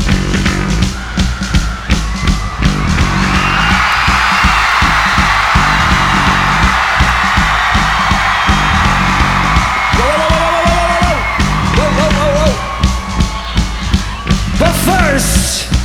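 A huge concert crowd in Milton Keynes screams and cheers continuously, a dense roar of many voices with shrill whoops and yells rising above it, loud and sustained throughout.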